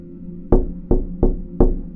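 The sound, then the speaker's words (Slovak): Four firm knocks on a door land in a quick, slightly uneven sequence, each loud and sharp with a short resonant decay, over a low steady background hum and no voices. “Možno som v dome počula obvyklé vrzganie a moja paranoidná mysl si ho pomýlila s klopaním.”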